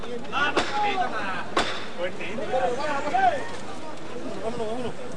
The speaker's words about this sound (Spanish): Va a sonar de nuevo el martillo.